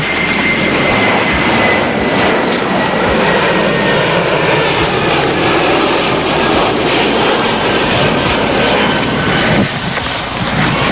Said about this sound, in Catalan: I has gravat algun avió? La banda sonora.